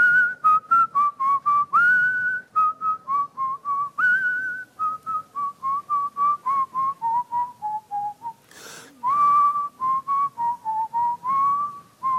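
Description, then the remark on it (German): Someone whistles a lively melody on request, with short rapid notes in a quick rhythm that glide gently downward in pitch, plus a breathy burst partway through; no one speaks. “Mensch, der kann ja richtig gut pfeifen,”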